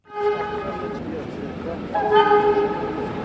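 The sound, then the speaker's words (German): A locomotive warning horn blares in two long, loud blasts, the second stronger, with a low rumble beneath as the train passes at walking pace through the middle of the bustling small town of Ferizaj, Kosovo, and faint voices in the background. “Das Warnsignal der Lokomotive schallt über die ganze Stadt.”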